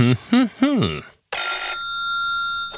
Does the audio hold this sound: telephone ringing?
yes